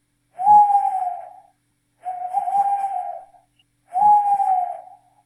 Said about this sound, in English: Can you please make a sound of an owl? This is what a real owl sounds like.